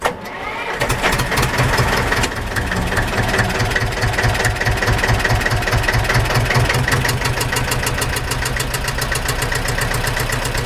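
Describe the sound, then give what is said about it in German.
A steel tractor engine cranks to life and settles into a steady, chugging idle with a regular low-pitched knock, then keeps rumbling loudly as it drives off, with no voices. “Da fährt er davon auf seinem stählernen Traktor.”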